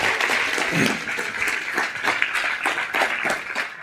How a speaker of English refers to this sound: So y'all give a great hand clap.